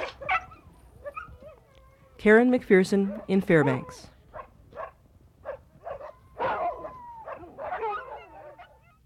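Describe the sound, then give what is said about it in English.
Sled dogs in frosty, snowy woods burst into a loud chorus of howling, yelping barks for a couple of seconds. Scattered yips and whines follow, while a person speaks. “Dogs and mushers alike are howling all over the frosty woods these days.”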